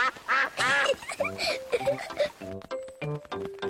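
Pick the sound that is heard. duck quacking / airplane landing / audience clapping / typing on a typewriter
duck quacking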